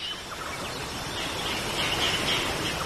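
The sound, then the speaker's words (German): A steady, unbroken rush of a waterfall heard from afar in humid tropical air, a broad hiss holding the same level throughout, with faint high bird chirps flickering above it. “Aus der Ferne kannst du das Rauschen eines Wasserfalls hören.”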